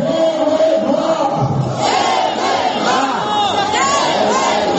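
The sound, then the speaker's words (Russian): Several thousand protesters on the square at the Tomsk Palace of Sports, Tomsk, in frost and strong wind, shout and chant "Hands off TV-2" and "Shame on the Tomsk authorities" in support of TV-2, a dense, steady roar of many raised voices that stays loud throughout without pause. “Люди кричат «руки прочь от ТВ-2» и «позор томской власти».”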